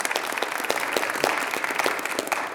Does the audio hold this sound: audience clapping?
yes